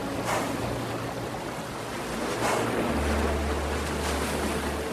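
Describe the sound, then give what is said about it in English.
A powerful river current roars steadily throughout, a dense wash of churning water with a deep low rumble underneath and occasional surging swells, with no voices. “And the current's just too strong.”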